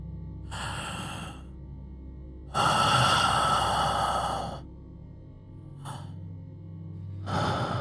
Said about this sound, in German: Und du hörst in der Tiefe ein schweres Atmen zu deiner Linken.